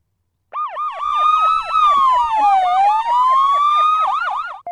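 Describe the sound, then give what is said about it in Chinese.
A police car siren blares with a rapid warbling yelp riding over a slower rise and fall in pitch, loud and continuous for several seconds with no voices, from police cars arriving on the scene. “在随后赶来的警车刺耳的警笛声，叶文和刘武都渐渐失去了意识。”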